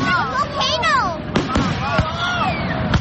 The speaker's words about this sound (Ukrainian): Це у Торонто яскраві вогні, які освічують небо, святкові фейерверки.